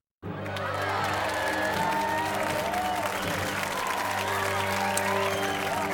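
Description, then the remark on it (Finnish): A big round of applause from a large crowd bursts in and carries on steady and loud for several seconds, with cheering and whoops mixed into the clapping. “Nämä oli isoimmat aplodit, mitä meillä oli tarjolla ja ensimmäiset tänään tällaiset jaetut.”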